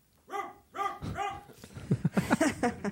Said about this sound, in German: In der Ferne bellt ein Hund.